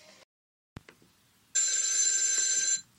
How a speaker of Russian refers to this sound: И у нас звонок в студии.